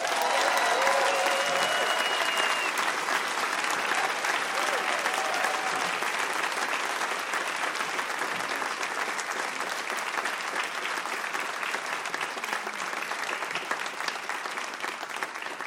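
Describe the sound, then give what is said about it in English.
An audience applauds steadily and loudly for about sixteen seconds, a dense continuous patter of many hands clapping, with a few faint voices mixed in near the start. “I'm going to ask you to give a warm round of applause and welcome to the hosts of the Prosecuting Donald Trump podcast, Andrew Weissman and Mary McCord.”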